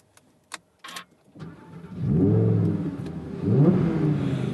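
A few sharp clicks, then the mid-mounted engine of an Audi sports car, started with a button on the steering wheel, cranks and fires into a loud, deep roar, revving up twice with rising pitch before settling into a throaty idle. No one speaks.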